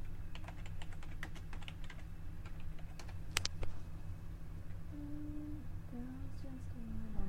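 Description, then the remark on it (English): Rapid, irregular keystrokes clatter on a computer keyboard, with a few sharper clicks, then stop partway through, leaving a steady low hum and faint tonal sounds. “You're not typing anything.”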